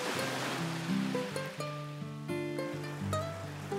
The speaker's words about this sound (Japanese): 波は急がず、強く主張することもなく、ただ行き来しています。